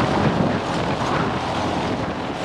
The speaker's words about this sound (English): These planes are known in the biz as eVTOLs, a clumsy acronym for Electric Vertical Takeoff and Landing. They don't need a runway to take off, but they can still fly forward the usual way.